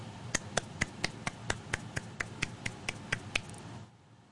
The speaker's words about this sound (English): Little golf clap for the bishop.